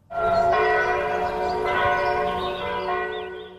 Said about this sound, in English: It is a sound as old as time. Many of us associate it with festivities like Christmas or with the Christian faith more generally. And if you ever find yourself in Europe, chances are you won't be too far away from the chiming of church bells.